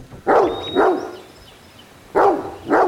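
Scout, a dog, barks four times in two quick pairs, loud, with a short quiet pause between the pairs and no one speaking.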